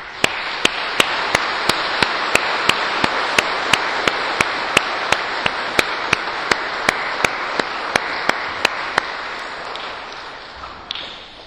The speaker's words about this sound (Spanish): Estamos realmente agradecidos. Por eso queremos, en nombre de los padres de ustedes, darle un aplauso grande.